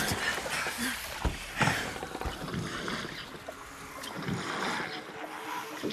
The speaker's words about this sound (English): Something doesn't seem right. Keep rowing.